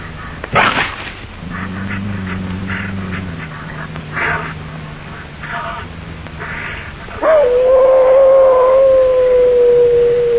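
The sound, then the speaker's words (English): Wolves howl at night in long, drawn-out tones, low at first, then a louder, higher howl rises and holds steady through the end, with faint yips mixed in. “Wolves, what's the matter with them tonight?”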